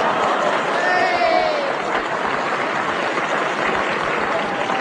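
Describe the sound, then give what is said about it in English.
Steady audience applause fills the whole stretch, a dense crackle of many hands clapping at an even level, with a few faint whistles rising above it. “And a blue bottle making sign to audience for applause.”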